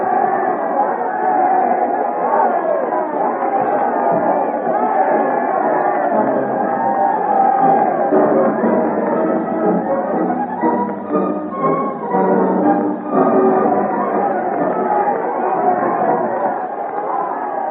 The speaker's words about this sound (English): Through the crowded streets, amid the cheering, they drive in the royal carriage back to Boislorier House, where the Duke of Almada has placed the first floor at their disposal.